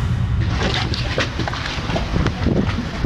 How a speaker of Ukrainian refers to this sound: На маяк, де тренується спецпідрозділ прикордонників, ми вирушаємо на моторному човні.